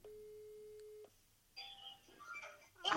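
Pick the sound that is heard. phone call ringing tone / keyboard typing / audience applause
phone call ringing tone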